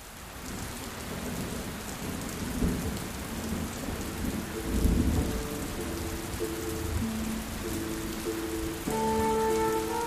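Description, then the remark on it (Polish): Steady rain pours down with a dense, hissing patter, joined by low rumbles of thunder and a soft melodic tone entering near the end. No one speaks. “Odcinek 21, w którym pada deszcz, a Pepe wciąż stoi na ścieżce.”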